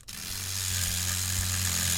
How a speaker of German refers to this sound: Ganz konzentriert arbeitet Sabah Khalegi gerade mit einem feinen Bohrer an einem Motor